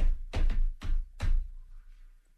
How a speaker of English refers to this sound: I hear the balls bouncing again. That squeaking of the shoes. Boom, boom.